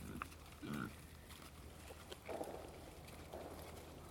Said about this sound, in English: if you see pigs in the forest, just come up nice and gentle. And you'll be rewarded with pigs now going about their business. They'll come trotting over when I first walk down the path. Now they're just quite happily.